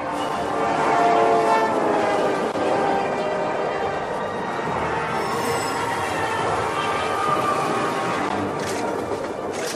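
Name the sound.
train passing with horn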